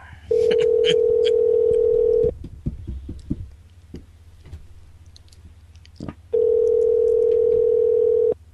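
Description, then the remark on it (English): A steady, loud payphone dial tone hums for about two seconds, breaks into a stretch of scattered clicks and handset clatter as a number is dialed, then the tone returns. “That sounds like a payphone.”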